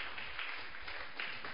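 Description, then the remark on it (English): A crowd claps for Jesus during a sermon, a dense, continuous patter of many hands, fairly steady and moderately loud, filling the short moment with no talking over it. “Clap your two hands for Jesus.”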